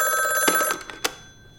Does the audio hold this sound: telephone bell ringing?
yes